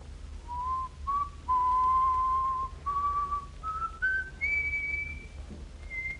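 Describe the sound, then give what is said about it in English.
A person whistles a slow, wandering tune of sustained notes that step gradually upward in pitch, clear, with a faint low hum underneath and no talking. “Is you got a whistle, mister?”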